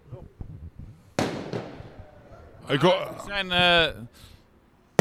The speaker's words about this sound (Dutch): Hoera, hoera, wat vuurwerk hier.